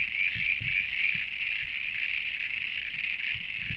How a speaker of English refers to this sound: the frogs you're hearing at the moment are common froglets, and only male frogs call. And each frog species calls at a different frequency, and the females can only hear the males calling in a particular frequency range.